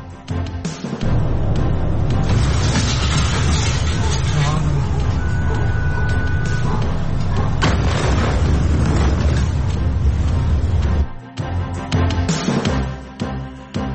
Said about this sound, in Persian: وقوع انفجار بزرگ در بیروت، تمامی پایتخت لبنان و حومه آن این انفجار بزرگ را شنیدند.